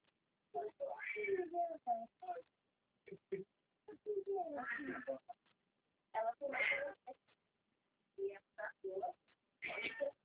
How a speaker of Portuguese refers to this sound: Olá, o gato estava na árvore, não estava dando como descer lá.